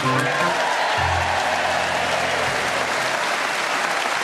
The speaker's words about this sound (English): Thank you. It's always a bit difficult when you start clapping without realising how long it's going to go on for, isn't it? Yeah, because you're stuck with it by then.